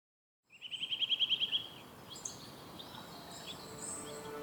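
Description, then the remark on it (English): A bird gives a quick rhythmic trill of about ten sharp, high notes, followed by softer scattered chirps from other birds over a steady outdoor ambience. No one speaks. “To you, those birds might just sound like nature in the background.”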